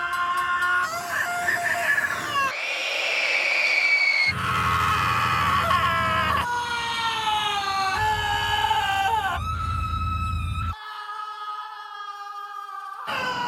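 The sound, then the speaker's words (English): Passing trains let out shrill, scream-like screeches in a string of abruptly cut segments, each a loud sustained harmonic wail, some over a low rumbling drone. “Screaming trains passing by in distress.”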